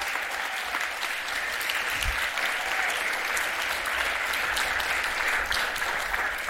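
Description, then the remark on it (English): A room full of people claps steadily for several seconds, a dense, even wash of applause with no voices standing out. “Yeah, so big round of applause.”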